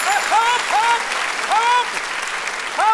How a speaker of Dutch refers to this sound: Hou op! Dit is een therapie en geen quiz. Dat domme geklap altijd steeds bij die quizzen.